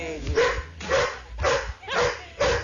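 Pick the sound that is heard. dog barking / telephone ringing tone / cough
dog barking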